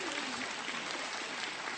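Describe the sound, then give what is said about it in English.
An audience applauds steadily in praise of a band, a community band. It is a dense, even wash of many hands clapping at once with no break and no voices standing out above it. “We absolutely go ahead and clap for that.”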